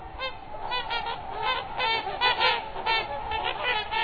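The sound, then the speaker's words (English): Trumpeter swans, the world's largest water birds with wingspans up to 9 feet, call in a steady chorus of honking, brassy notes, many birds overlapping in quick repeated bursts at moderate volume, with no talking. “With up to 9-foot wingspans, trumpeter swans are the world's largest water birds.”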